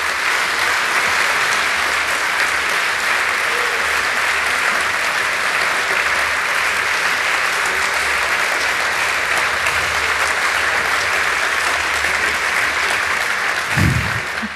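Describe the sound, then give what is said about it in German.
Sustained audience applause at the end of a talk, a dense, steady wash of many hands clapping at an even loudness for the whole stretch, with no voices breaking through. “Ich glaube, das war schon ein recht ordentlicher Applaus.”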